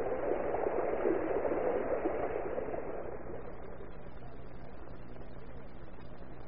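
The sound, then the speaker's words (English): A steady, forceful hiss of water spraying from a fire engine's hose at full pressure, continuous, loudest in the first few seconds before settling into a slightly softer, even rush. “And so, riding on the crest of the current of water from the hose”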